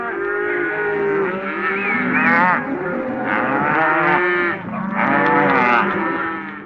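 cattle mooing

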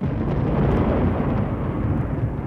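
thunder rumbling

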